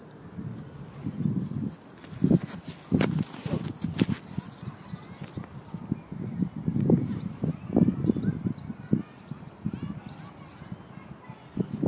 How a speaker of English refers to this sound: Give you a few more shots of my surroundings and let you take in the ambient sound of birdsong.